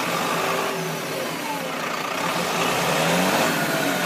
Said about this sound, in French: Il est 7h, votre bus passe à 7h02. Vous arrivez à votre arrêt de bus et là, votre bus est en train de partir.